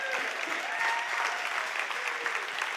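Steady audience applause, a dense wash of many hands clapping at an even loudness for a few seconds, with no voices standing out above it.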